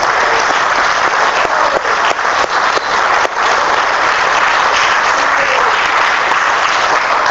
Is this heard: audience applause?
yes